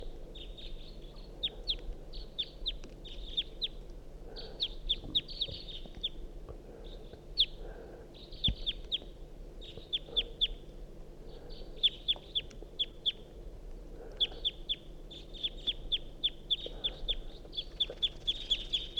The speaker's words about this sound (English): Wild bird, stop. Start recording the same wild bird.